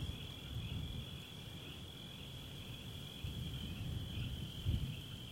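A steady, unbroken chorus of crickets and frogs trills at night, high and constant, over a low outdoor rumble. There are no voices.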